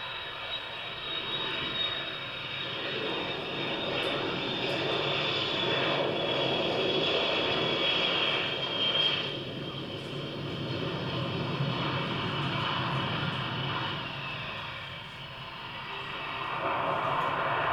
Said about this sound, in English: So, and you have now 7 shots in a row of a plane landing. It's really 3.5 minutes, just one plane landing after the other.